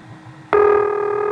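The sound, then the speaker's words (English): Unfiltered hissy background noise on an analog carrier telephone trunk, with a faint steady tone. It abruptly jumps to a loud, buzzy sustained hum rich in overtones and holds steady to the end. No one speaks. “The background noise here, unfiltered, has a very distinctive tonal quality.”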